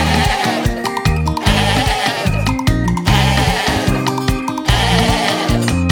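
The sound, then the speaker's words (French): A voice imitates a sheep's bleat, repeating wavering baa-like calls in a steady rhythm over a loud, continuous musical backing, prominent throughout. “Quand le mouton fait bê à l'envers, ça fait ebb. Est-ce que tu peux le faire?”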